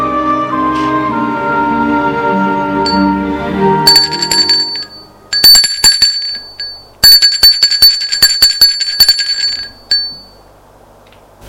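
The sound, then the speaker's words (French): A doorbell at a deaf old man's door rings in three rapid, rattling bursts, shrill and metallic, after a few seconds of fading chime-like tones; the last burst is the longest before it stops. “Comme il est sourd, il n'entend pas la sonnerie.”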